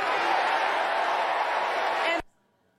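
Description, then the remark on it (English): A large crowd roars and chants "do something" together, a loud, dense wash of many voices held steady for about two seconds before cutting off abruptly into near silence. “The crowd then erupting into chants of do something.”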